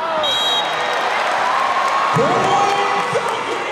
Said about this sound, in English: A boisterous crowd of nearly 5,300 newly minted fans cheered the Valkyries in their first match. a competitive battle against the Atlanta vibe.